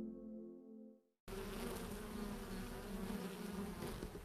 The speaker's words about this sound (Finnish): Tässä on nyt tällainen aikamoinen kuhina. Mehiläiset on aloittanut työpäivänsä ja mielenkiintoista katsoa ihan tästä mehiläispesän vierestä.